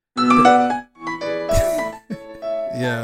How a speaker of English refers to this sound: classic Nokia. That was the fancy version though. Yeah. There was an even older version, that's of that, wasn't there? That's not the 8-bit version. That's like a real piano. That was like the polyphonic ringtone.